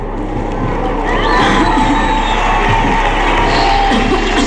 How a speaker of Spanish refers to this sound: Aplausos de la chavalería.